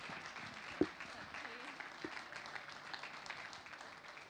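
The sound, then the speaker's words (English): A crowd claps together in a steady, continuous round of applause for a group of speakers, with an occasional sharper clap standing out from the wash of sound. “Can you give them all a round of applause?”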